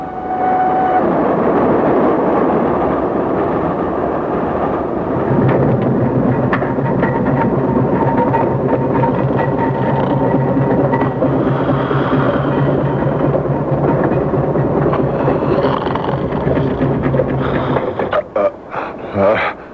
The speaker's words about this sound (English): What's that? Train's slowing. What for? Reading. Last stop before Paddington.